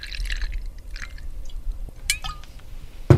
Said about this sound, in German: Und gießt 4 Gläser ein. We have 4 different wines, Madeira wine.